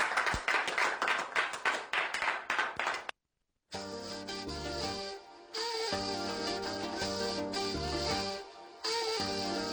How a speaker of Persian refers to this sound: به افتخار همه اونایی که امشب ساز و آوای ایل بختیاری رو انقدر قشنگ نواختن و خوندن، تشویق جانانه بفرمایید.